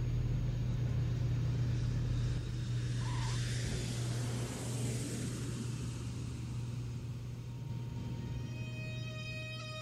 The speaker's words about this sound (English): And the plane is landing.